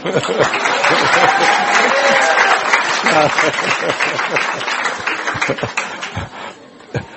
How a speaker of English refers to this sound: Ah. Applause.